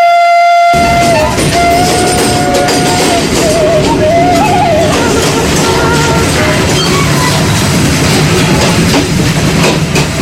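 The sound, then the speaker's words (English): A diesel train engine roars loudly and steadily, with a sustained horn-like tone sounding over the rumble for the first few seconds before the heavy mechanical din continues alone; the train is travelling toward Kampung Naga, Tasikmalaya Regency, West Java Province. “The roaring sound train diesel machine takes us to a place which amazes both natives and foreigners named Kampung Naga.”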